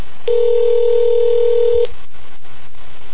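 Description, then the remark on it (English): A single steady electronic telephone tone sounds loud and clear for about a second and a half as a phone call is placed, then cuts off abruptly, leaving only faint background noise and no voices. “I'm going to call him and see if he's going to pick up his phone this time, hopefully.”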